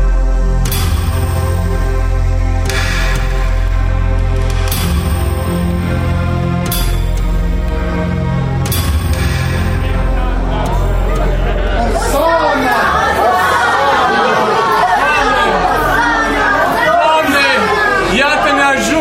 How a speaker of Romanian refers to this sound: Mulțime mare de vânzători și de zarafi s-a adunat aici. Aproape că nici nu mai poți trece printre tarabele întinse peste tot.